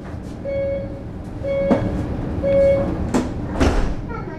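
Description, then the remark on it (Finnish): Three evenly spaced warning beeps sound inside a rumbling metro train heading east in Helsinki, Finland, followed by the heavy thuds of sliding doors closing, against steady carriage noise. “Otan metron itään ja lähden Suomen shia-yhteisön suurimpaan moskeijaan, Itä-Helsingin Mellunmäkeen.”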